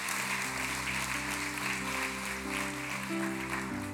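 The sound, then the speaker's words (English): An audience claps steadily for a speaker after his message, a dense, even wash of applause that holds at a constant level, with a low sustained tone running underneath it. “Why don't you guys give him a big hand clap?”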